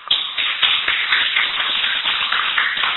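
A group of people applauds to welcome a fellow practitioner who will share their experiences at the start of a program, a dense, steady patter of many hands clapping at once that stays fairly even for a few seconds, with no talking over it.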